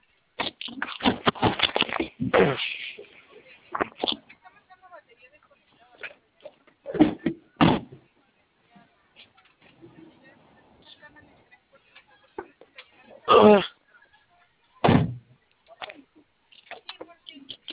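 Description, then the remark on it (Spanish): Car doors are slammed shut several times at irregular intervals, each a heavy thud, with quieter rustling and muffled voices in the gaps, as the doors of a car that won't start are checked for a door lock. “¿Podría revisar bien sus puertas? Es que aquí me parece que tiene bloqueo por puerta.”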